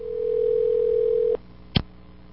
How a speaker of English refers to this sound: You know, it would help if I did this. Get a dial tone first.